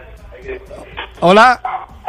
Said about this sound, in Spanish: el perro, que también está muy contento. Como podéis escuchar, algo le ha tocado al perro.